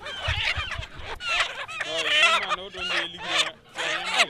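A crowded chorus of chickens clucking and squawking at a market for local 'poulet bicyclette' chickens in Ouagadougou. Overlapping calls rise and fall continuously for a few seconds, with people's voices murmuring faintly underneath.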